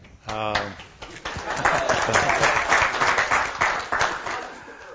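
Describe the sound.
An audience bursts into applause, a dense wash of many hands clapping steadily at a loud, even level for several seconds, with a brief pitched voice cutting in at the start.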